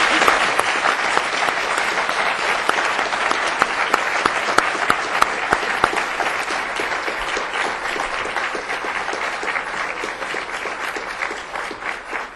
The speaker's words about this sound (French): Merci, j'aimerais qu'on donne une chaleureuse main d'applaudissement à nos panélistes.